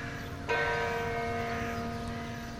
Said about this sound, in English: The sun was out, spring was in the air, cafes and museums were full, the Bateau Mouche excursion boats were chugging along the Seine, the church bells were ringing.